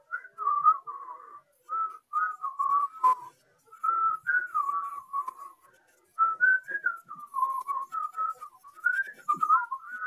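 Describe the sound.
Someone whistles a tune alone, a bouncy, repetitive melody in short rapid phrases with brief pauses, the pitch hopping up and down in a steady upbeat rhythm.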